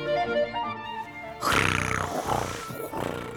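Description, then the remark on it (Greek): A loud, rough snore of a wolf bursts in after a soft, tonal musical passage, a deep rasping rumble rising and falling over a couple of seconds, growly. “Ροχάλιζε ο λύκος.”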